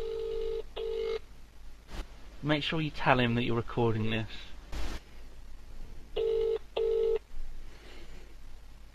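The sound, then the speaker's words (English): A phone call to Sips is dialled at 11:04 and goes unanswered: a steady electronic double-ring tone sounds twice, separated by a pause, with someone speaking briefly in the gap between the rings. “He's not answering.”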